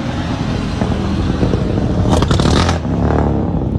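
A driverless car with no one at the wheel pulls up, its steady engine and tire rumble filling the scene, with a brief rush of hissing noise midway before settling again. No one speaks.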